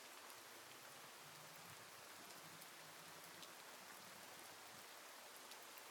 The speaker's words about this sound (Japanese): 雨音、うっすらと聞こえますね。あなたの耳には雨音、どのように聞こえますか？